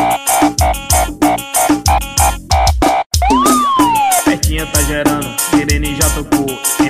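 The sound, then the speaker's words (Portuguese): A loud, punchy funk beat with steady kick hits and stabbing synth chords, broken midway by a sampled siren wail that swoops up and slowly falls before the groove continues. “Tá gerando, sirene já tocou. MTS no beat, astronauta convocou.”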